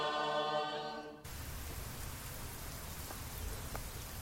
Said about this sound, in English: I'm running around the block in the rain.